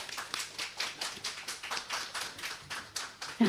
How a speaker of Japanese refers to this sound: どうぞ拍手をお送りください。